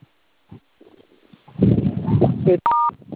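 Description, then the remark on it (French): A single short telephone keypad tone beeps clearly as someone dials the phone, right after a stretch of low rumbling, muffled handling noise, with quiet soft thumps earlier on. “Quoi de vous tailler à composer le téléphone, hein?”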